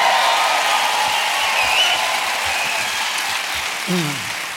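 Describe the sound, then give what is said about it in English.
A church audience applauds a preacher steadily, a dense wash of clapping that holds at an even, fairly loud level, with a brief vocal sound surfacing near the end. “Would you clap?”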